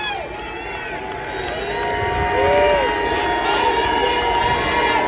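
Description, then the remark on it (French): A large crowd boos loudly, the jeering swelling after a couple of seconds and staying strong, with faint, muffled clapping buried underneath the roar. “tout à coup, les huées deviennent très fortes”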